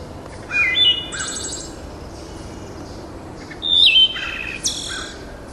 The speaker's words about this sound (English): That's the wood thrush.